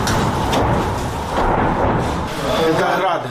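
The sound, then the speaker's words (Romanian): A salvo of Russian Grad rocket explosions lands very close in the town of Orihiv, Ukraine, a loud, continuous rumbling roar of overlapping blasts with several sharper bursts, while shouting voices can be heard underneath. “Sunt rachete Grad. Au căzut foarte aproape.”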